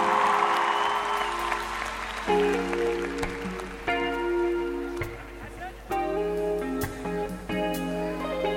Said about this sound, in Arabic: اسمع له سقفة جامدة.